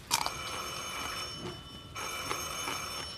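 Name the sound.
telephone ringing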